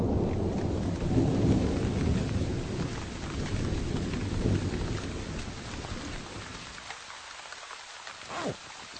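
A deep, distant thunder rumble rolls for several seconds over steady rain in the mountains as the weather closes in during a walk, fading out as the patter continues, with a few sharper drips near the end.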